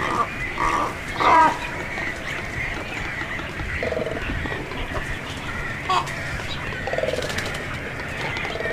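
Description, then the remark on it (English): A chorus of black, serpent-necked cormorants at a nesting colony of hundreds of guano-whitened nests inside stone walls, with a highway bridge overhead and smokestacks nearby, croaking and grunting in overlapping, pig-like calls, with a few sharper, higher cries breaking through a steady, busy background. “Most surprising to me were the croaking conversations of the black, serpent-necked cormorants, which sounded like hogs or demons.”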